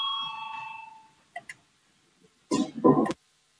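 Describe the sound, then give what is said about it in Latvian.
A steady electric parliamentary voting bell rings alone for about a second, called to start a vote on a proposal, then fades out. Two soft clicks follow, then a brief rustling burst near the end. “Lūdzu zvanu, balsosim par 25. Kultūras ministra Puntuļa priekšlikumu.”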